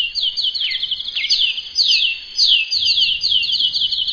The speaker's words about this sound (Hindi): सभी चिड़ियों ने एक बार फिर जोर जोर से बोलना शुरू कर दिया।